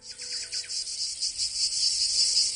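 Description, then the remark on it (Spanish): A cicada sings a loud, continuous high-pitched buzz with a slightly pulsing texture, steady throughout, with no voices. “Vamos a escuchar lo que es el de la cigarra.”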